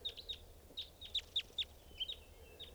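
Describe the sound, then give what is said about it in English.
A bird calls with quick, high-pitched chirps mixed among scattered calls from a flock of about 20 birds, arriving in an irregular rhythm over a low, steady background rumble. No one speaks. “There's a bird right here, staying here.”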